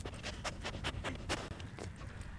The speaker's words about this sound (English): That sniffing you hear is Tilia, the conservation dog at Mequon Nature Preserve. Right now, she's looking for a treat.